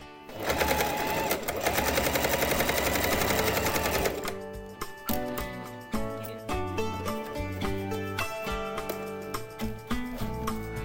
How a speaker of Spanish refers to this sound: Entramos con esta máquina, a ver, máquina de coser. Escuchamos a la máquina de coser. Pues esta máquina de coser es de una artesana local, como os decía, que hace bolsos en armonía con la naturaleza.